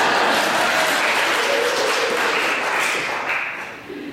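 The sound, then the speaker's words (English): An audience at an LGBT Week lecture claps steadily, a dense, loud wash of many hands that holds for about three seconds, then thins and fades toward the end. “And it's okay to be to clap and be expressive.”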